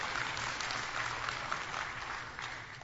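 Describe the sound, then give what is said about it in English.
An audience claps steadily for the full few seconds in response to a sermon line about God's Word lasting forever, a dense, even wash of many hands with no pauses and no voices. “And if you're going to clap about that, read His Word this week, will you?”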